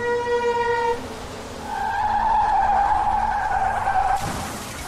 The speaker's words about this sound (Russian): Увидев летящий на них Volkswagen, шофер затормозил и свернул влево. Но Volkswagen повернул в ту же сторону.